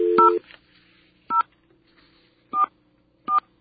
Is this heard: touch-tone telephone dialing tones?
yes